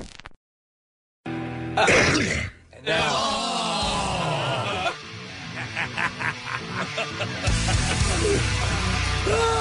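A loud, phlegmy cough erupts after a brief silence, followed by several seconds of wet, rasping, hacking and sputtering sounds that stay harsh and congested throughout.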